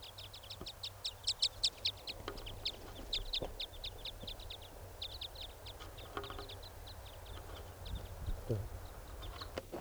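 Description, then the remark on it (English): Rapid, high-pitched chirps from a foraging type 5 bird repeat throughout, strongest and densest in the first couple of seconds, then continuing more sparsely over a low, steady background rumble. “Trying to get the type 5 bird. Who's foraging over here.”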